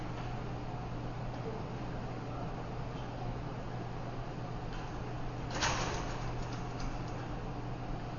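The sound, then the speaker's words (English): Doors slide or thump shut about two-thirds of the way through, with a few light clicks after it, over a steady low hum and room noise. No one speaks. “I'm going to close these doors.”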